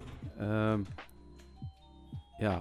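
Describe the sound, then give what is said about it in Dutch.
A doorbell chimes with steady, ringing electronic tones that linger in the background while someone keeps talking over it. “Sorry, ja, dan gaat de bel ondertussen, maar dat is niet erg.”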